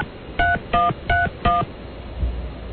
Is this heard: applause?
no